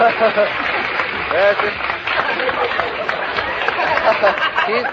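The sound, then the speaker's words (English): Steady, eager clapping, including a son applauding wildly, runs throughout, mixed with a murmur of overlapping voices. The sound is muffled and thin on top, like an old recording, and fairly loud from start to finish. “He's applauding like mad, just to chip off the old block.”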